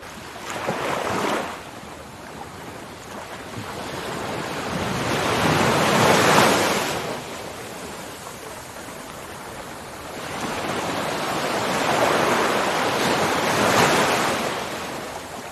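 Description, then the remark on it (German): Ocean waves break on shore in slow, rolling surges, each swelling to a broad hiss of surf and then easing back, with a soft wind-like wash between crests and no voices. “Altes, Verbrauchtes darf nun im Rhythmus der Wellen aus deinem Körper gleiten.”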